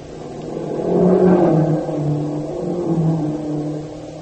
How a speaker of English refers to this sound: Hey, they're Jap staff cars, all right. Hurrying toward the west gate of the town.